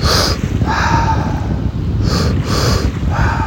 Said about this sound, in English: Begin our breathwork session in the traditional set with a two-part inhale, breathing in through the belly, into the chest, and then exhale through the mouth. So it sounds like.